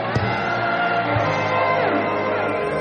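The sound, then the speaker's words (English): An audience shouts amen together in a loud, sustained roar of many voices, dense, with a few brief louder whoops rising from the crowd. “Let your amen turn the louder.”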